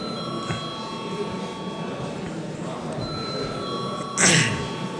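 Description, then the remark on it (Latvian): A chamber bell rings to call a vote that the deputies requested, in a long, steady, high tone over a low murmur of voices, with a brief louder clatter near the end. “Deputāti prasa balsojumu, lūdzu zvanu.”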